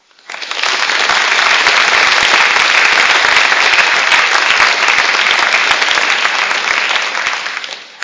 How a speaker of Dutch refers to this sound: Als gemeente willen we jou bedanken met een applaus.